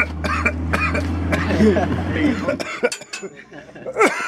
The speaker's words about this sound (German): Aber das Gras hatte, wie gesagt, eine schlechte Qualität. Es war noch ganz frisch und das Chlorophyll hat einen starken Hustenreiz verursacht.